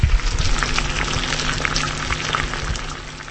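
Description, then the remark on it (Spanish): Water boiling steadily in a pot or kettle to make tea, a dense, continuous bubbling hiss with crackling pops throughout and no voices. “¿Para qué hierves vaříš el agua”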